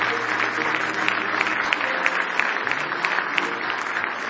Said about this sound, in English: Now give the Lord a good hand clap of praise.